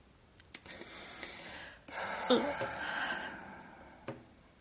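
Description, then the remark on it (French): Heavy breathing: a long, rough, noisy breath swells loudly in the middle, with faint breaths and small clicks around it and no talking. “J'entends ta respiration.”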